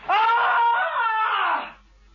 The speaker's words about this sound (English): You have to scream. You haven't given us the scream. Okay. I'll give you a real blood curdler.